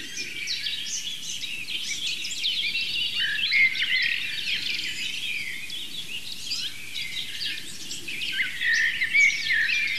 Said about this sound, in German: Jedenfalls war die Blaumeise auch noch drin als Vertreterin der Rhythmiker.